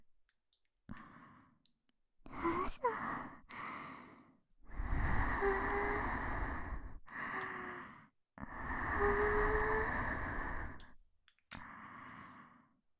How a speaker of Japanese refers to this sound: で、耳元に吐息吹きかけられるだけでも気持ちいいんだ。